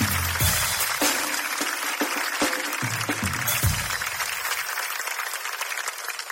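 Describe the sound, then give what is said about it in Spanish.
Sustained audience applause for the speaker's friend and his family, a dense wash of many hands clapping at a steady loud level, with a few sharper thumps early on, and no voices over it. “Un fuerte aplauso para mi amigo”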